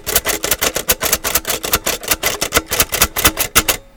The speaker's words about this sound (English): 5 of 5. And a Perkins Brailler sound scheme. Not bad.